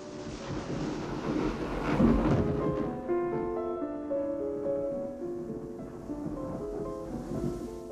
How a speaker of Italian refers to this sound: Scherzi, un fulmine.